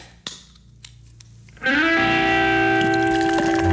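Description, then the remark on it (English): A drink is poured into a glass: after a short quiet stretch with a small click, a loud, steady gurgling stream begins, its resonant pitch rising quickly and then holding. “That is pure, that pour.”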